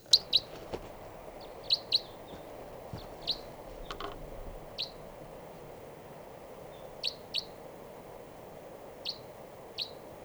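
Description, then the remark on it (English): Short, sharp type 3 crossbill calls repeat at irregular intervals, a dozen or so clipped chirps, some doubled, against a low, steady outdoor rumble, recorded at 6:22 a.m. They sound clear, with no voices. “and I thought I heard a type 3 grosbill coming around here.”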